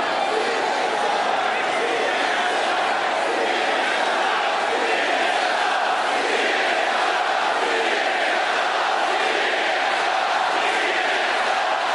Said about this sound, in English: Crowd is chanting CNN sucks, and CNN at this point in time breaks away from coverage.